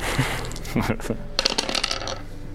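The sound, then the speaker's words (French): Dice clatter and skitter across a hard surface in a quick burst of sharp, rattling clicks, with faint voices murmuring beneath. “Tu peux lancer les dés et fais moins de.”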